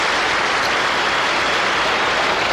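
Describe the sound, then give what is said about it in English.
Canned studio applause from a 1970s TV show: a dense, steady wash of clapping that holds at an even, fairly loud level throughout, with no voices over it. “It's a lot of fake applause.”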